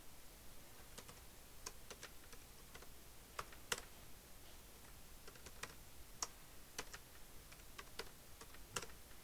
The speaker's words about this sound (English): So very nice keyboard.